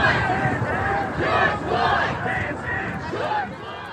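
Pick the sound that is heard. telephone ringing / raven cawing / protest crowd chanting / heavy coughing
protest crowd chanting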